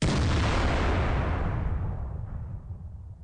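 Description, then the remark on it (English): A single loud cannon blast booms out, its deep rumble slowly rolling away and fading over a few seconds, with no voices present. “All right, we got to put that cannon back.”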